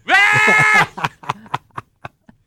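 A goat lets out one loud, drawn-out bleat, followed by a series of shorter, fading bleats or grunts in an uneven rhythm.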